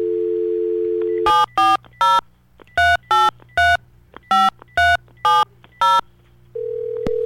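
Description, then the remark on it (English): A steady dial tone gives way to a quick run of about ten touch-tone dialing beeps in an uneven rhythm, then a brief tone resumes, as a radio host dials out to the next contestant of an on-air cookie giveaway game. No voices. “Oh boy, are the phones... Okay, there's the phones. Here we go.”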